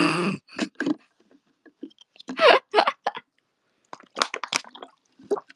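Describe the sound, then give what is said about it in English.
Someone drinking water, with a series of wet gulps and sloshing swallows in irregular bursts and short pauses between them, no talking. “Water's so good.”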